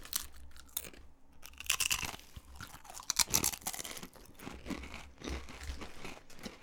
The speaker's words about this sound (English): Right, I'm going to test the crunch. Eat it.